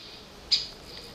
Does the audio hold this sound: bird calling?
yes